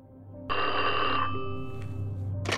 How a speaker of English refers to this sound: When Edwards got to his hotel room, the phone rang almost immediately.